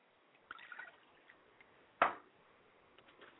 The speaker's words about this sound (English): And then we open to the earth and say, Owatutu, Owatutu, Owatutu, and pour libation to the earth.